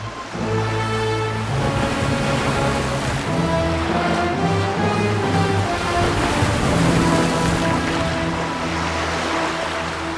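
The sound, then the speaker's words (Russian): Rough, stormy sea surf crashes on the shore, roaring continuously and loudly, swelling in surges every few seconds, mixed with a steady, sustained musical drone underneath; no one speaks. “Изо всех сил, борясь с волнами, они встали на ноги и вытащили из круга тоненькую женскую фигурку.”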